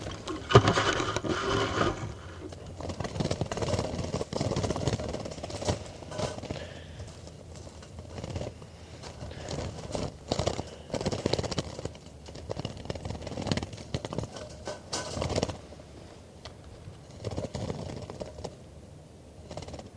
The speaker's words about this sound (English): So recording bird 411 being handled.